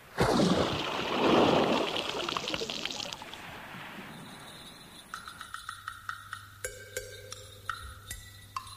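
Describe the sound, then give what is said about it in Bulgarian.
Rowboats, readied after anchoring to go ashore on an island, push through water with loud splashing and sloshing for a few seconds, then the water fades under steady tonal chirps and light rhythmic clicks. “Хвърлете котва и пригответе лодките.”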